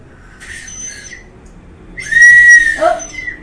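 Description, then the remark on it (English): A small toy whistle from a child's party bag is blown twice, first a short breathy toot, then a longer, louder shrill blast that wavers and drops in pitch at the end. No one speaks. “using the whistle”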